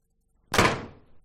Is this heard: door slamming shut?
yes